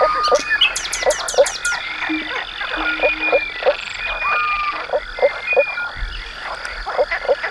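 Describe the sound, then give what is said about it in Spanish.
Frogs croak steadily in a dense chorus, amplifying their voices with a resonating membrane in the throat, one of them singing underwater; resonant, throaty calls pulse in quick repeated bursts, with a few higher chirping notes and occasional bird-like squeaks over the continuous racket. “los anfibios, que utilizan un resonador. En vez de utilizar un cañón, un barranco, utilizan una membrana que tiene en la garganta para que su voz suene rota, oh, amplificada, y siendo tan poquita cosa, parece que son mucho más.”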